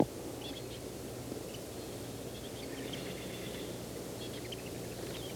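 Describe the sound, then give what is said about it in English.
Soft, high two-note calls of a chickadee repeat faintly a few times over a steady low rumble of wind or traffic, with no voices present. “It's a two-note. Very soft.”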